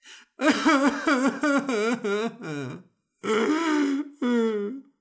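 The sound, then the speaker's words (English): A person's voice imitates suddenly bursting into tears, with a run of quick, wavering wails, a short pause, then two more drawn-out crying moans, loud, with no words. “That is me bursting into tears.”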